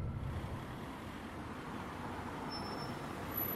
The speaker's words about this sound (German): Landschaftlich ist die Strecke sehr schön. Es geht durch kleine Dörfer, vorbei an Schafen, die auf grünen Hügeln grasen. Aber es geht langsam voran. 2 Stunden braucht der Bus für die gut 100 Kilometer.